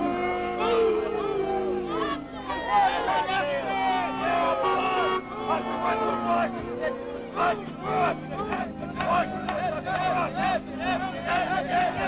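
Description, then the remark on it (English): A large crowd of Epton supporters and Right to Life demonstrators boos and shouts at Washington and former Vice President Walter Mondale at St. Paschal's Church on the city's northwest side, Palm Sunday 1983, in a loud, continuous clamor, many overlapping voices rising and falling together, no single speaker standing out. “They were met by a booing crowd of Epton supporters and Right to Life demonstrators.”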